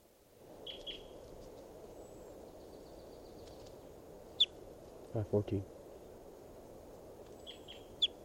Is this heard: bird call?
yes